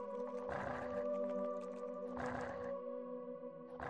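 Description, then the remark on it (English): A game creature named Thunder in Oblivion eats deer meat in three rough, growling chomping bursts, loud, over a steady droning musical tone with no talking. “Reading AI allows Thunder to detect the deer meat. He's going to eat it.”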